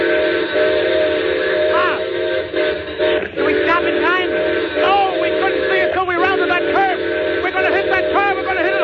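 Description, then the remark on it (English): A loud steam train whistle blows in one long, sustained blast lasting several seconds, its chorded tone wavering and bending slightly in pitch, with rumbling rail noise underneath. “There's a car still on the grade crossing. I know, I see it. Well, the whistle, quick, quick.”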